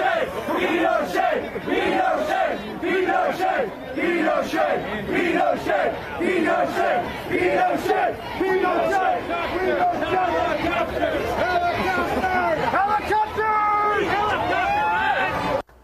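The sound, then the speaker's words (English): A large crowd of protesters, some chanting that Pinochet was a good guy, chants and shouts loudly and continuously, many voices overlapping in rhythmic bursts of yelling for the whole stretch before cutting off abruptly. “And, you know, they showed up to talk about this and to chant about it. Here's the clip.”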